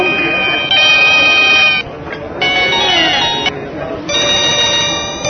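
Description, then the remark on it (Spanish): A telephone rings with a bright electronic melodic tone, sounding in three repeated bursts separated by short pauses, loud, with faint background murmur beneath. “Alguien conteste ese pinche teléfono.”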